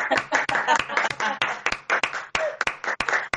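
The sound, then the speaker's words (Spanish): A short burst of audience applause, many hands clapping at once in a dense, steady patter with sharper individual claps standing out, fairly loud and with no voices throughout. “Casi esto se merece un aplauso, ¿no?”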